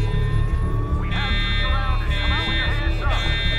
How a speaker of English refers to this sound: Fucking alarm. No way the cops could have gotten here this fast.